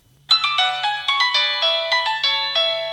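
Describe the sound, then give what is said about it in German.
A phone's electronic text alert chimes loudly for a text message sent to all Kenyans, a quick run of bright, melodic beeping notes in a steady rhythm over a low hum, with no voices. “SMS an alle Kenianer.”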